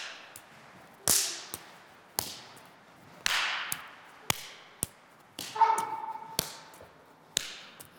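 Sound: hand claps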